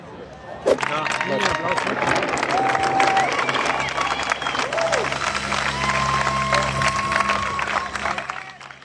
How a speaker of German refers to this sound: Liebe Sneakpot-Hörer, ihr hört gerade live vom Elite-Rennen der Herren beim Triathlon in Hamburg Weltcup-Stimmung. Hier, jetzt kommen gleich wieder ein paar weitere Athleten.